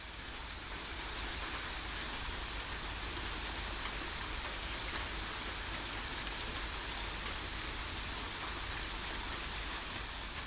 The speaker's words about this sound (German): Weiter entfernt sind die Klänge nicht mehr so gut unterscheidbar. Ich höre, wie der Regen auf die Straße niedergeht und das Zischen der Autos, die in beiden Richtungen vorüberfahren.